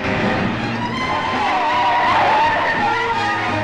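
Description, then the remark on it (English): Oncoming cars roar past on a road, swerving across the central line to get out of the way of a speeding ambulance, tires squealing in long, wavering skids, engines loud, the screech rising and bending for several seconds over a dense rumble of traffic. “Nurse Higgins speeds down the drive and out of the gates. Oncoming cars swerve out of their way”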